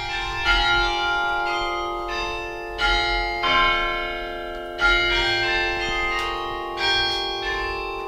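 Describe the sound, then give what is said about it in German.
Carillon bells played from a keyboard console, keys struck with fists and 30 pedals worked by foot, linked by pull wires to the bells' clappers, ring out in a slow melodic sequence, each new strike roughly every second layering over the lingering, shimmering tones of the previous ones. Clear and moderately loud, with no voices. “Über Zugdrähte sind Tasten und Pedale mit den Klöppeln der Glocken verbunden.”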